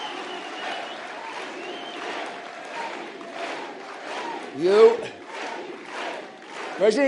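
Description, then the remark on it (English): A large crowd cheers and applauds in a steady roar, with sharp rising shouts breaking through near the end while a voice speaks over the noise. “He has everybody cheering.”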